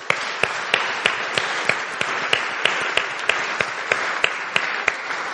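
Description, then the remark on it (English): A church audience applauds steadily for the people who set up the prayer room, a dense wash of many hands clapping with a few sharper, louder claps popping out at irregular moments. No one speaks over it. “And as I say, they're going to hate me for even mentioning them, but I think we deserve to give them a round of applause.”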